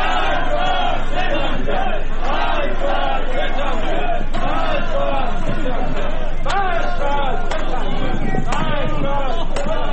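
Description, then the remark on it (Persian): A large crowd at an International Workers' Day (May Day) rally in Iran shouts and chants together, loud and continuous for the whole stretch, with a few sharp clicks cutting through the din near the end. “در همین حال فیلم‌هایی در شبکه‌های اجتماعی منتشر شد که از برگزاری تجمع‌های روز جهانی کارگر در رشت، اصفهان، تبریز، مشهد، کرمانشاه، سنندج، کرج، شوش، هفت تپه، خرم‌آباد، ساری، قزوین، اهواز، مریوان و عراق خبر می‌داد.”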